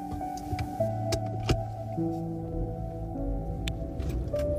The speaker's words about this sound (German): Nachdem Lena den Wagen gestartet hat, gleitet er leise über die Straße.